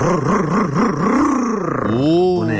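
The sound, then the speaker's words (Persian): A voice imitates a tuned car engine revving: a loud, buzzing growl that wavers up and down in quick pulses, then sweeps into a rising rev near the end. “قربونت موتور تقویت کردم ببین چیکار میکنه.”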